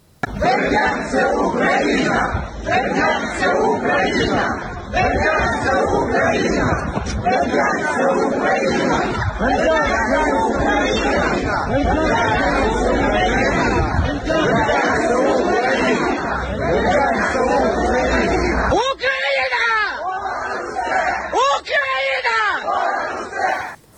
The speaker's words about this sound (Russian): А в Бердянске, городе на юге Украины, который занят российскими военными, жители снова вышли на акции против оккупации. А люди развернули национальный флаг Украины и кричали, что Бердянск – это Украина.